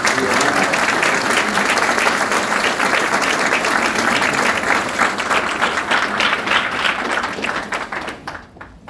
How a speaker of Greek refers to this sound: Ένα θερμό χειροκρότημα για τον κύριο.